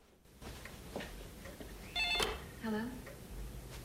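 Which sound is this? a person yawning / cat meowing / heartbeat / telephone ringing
telephone ringing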